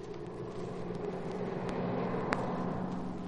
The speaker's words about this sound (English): Car coming from Pecking Company now. Yeah, this may be it, Cato. I'll wait till it comes through the gate and then we'll follow.